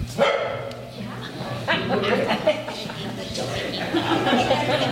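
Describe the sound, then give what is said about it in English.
A stray dog barks and yips a few times, short sharp bursts breaking through the overlapping voices and chatter of residents of Vista Rossi packed into a church for a community meeting on a very hot September day in 2023. “On a very hot September day in 2023, the residents of Vista Rossi packed into a church for a meeting, joined by a stray dog who also happened to wander in.”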